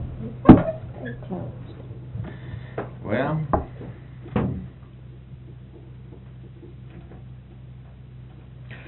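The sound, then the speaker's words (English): A door slams shut with a sharp thud near the start, followed by a few softer knocks and rattles. A voice briefly speaks. “Close the door.”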